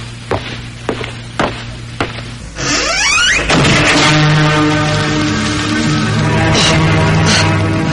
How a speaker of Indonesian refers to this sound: Nenek, kenapa kau menutup pintu kamar ini? Buka! Bukakan pintu ini! Aku sendiri di dalam! Aku mau keluar! Jangan kau tutup pintu kamar ini, Nenek! Buka! Buka!